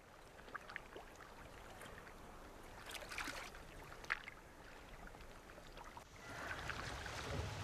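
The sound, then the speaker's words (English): Ocean water laps and sloshes steadily around something drifting at sea, with soft splashes and a brief louder slap near the middle, then a rising wash of surf-like noise toward the end. No one speaks. “And we know we've drifted.”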